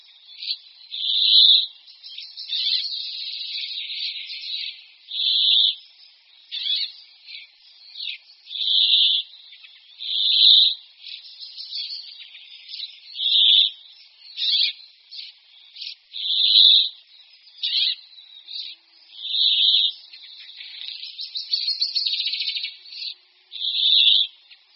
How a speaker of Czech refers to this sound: K protahujícím hejnům jikavců se často přidružují i jiní pěnkavovití ptáci, zejména pěnkavy obecné. Zpěv pěnkavy obecné pak slyšíte vedle hlasu jikavců poměrně výrazně i na naší nahrávce.